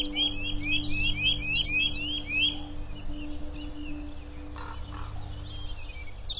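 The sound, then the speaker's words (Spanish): Spring courtship song chorus from robins and nuthatches in a forest in the Harz region: a rapid run of repeated bright notes for a couple of seconds, then sparser, fainter calls over a steady low background hum. “Los coros de cortejo de petirrojos y trepatroncos resuenan por todo el bosque.”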